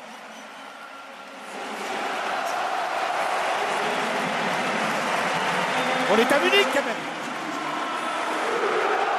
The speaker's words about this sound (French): Allez-y, allez-y, il la mérite, cette ovation, son partenaire du Bayern, Jamal Moussiala, auteur du deuxième but de la sélection. Écoutez.